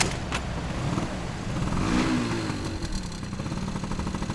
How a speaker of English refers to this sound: Even though it's November, the sun is still shining in Barcelona, and it's the perfect day to jump on the back of a scooter